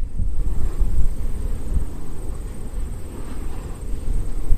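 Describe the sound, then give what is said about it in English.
A wind turbine on the Tug Hill Plateau, heard from almost at its base, gives off a steady, deep whooshing roar, much like a plane passing overhead, with low rumbling that swells and eases slightly over a few seconds, with no voices. “And as you can hear, they sound a little bit like a plane flying overhead.”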